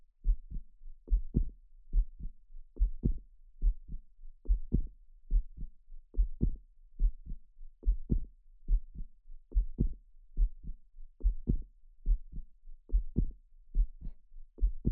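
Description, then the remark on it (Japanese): A steady heartbeat, heard with a face pressed against a woman's chest, thumps in low, paired beats, close and muffled, repeating evenly for the whole stretch with no voices over it. “ドクン、ドクンって、心臓の音、安心する？”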